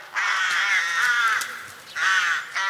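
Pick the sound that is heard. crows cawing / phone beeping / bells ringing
crows cawing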